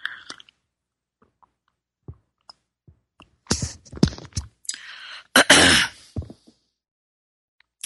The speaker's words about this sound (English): Time for a sip of my tea. Here we go, my beautiful rainforest tea.